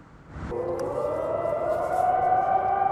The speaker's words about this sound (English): Air raid sirens can still be heard daily, but residents are undeterred.